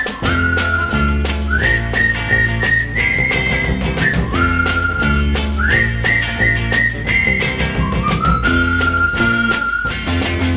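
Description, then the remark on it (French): A bright whistled melody, a friends' signal tune used to call a friend, of short rising and held notes carries clearly over a steady, rhythmic musical backing with a thumping beat; no one speaks. “Pour l'appeler, il emploie un truc qu'ils ont mis au point, le sifflet des copains.”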